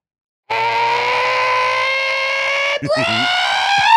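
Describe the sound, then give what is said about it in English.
A person imitates the scream of a pet gray parrot on its perch: a loud, shrill, sustained screech held for about two seconds, then a brief break into a second rising, wavering squawk. “He'd be, you know, stupid gray bird on his perch doing the figure eight thing.”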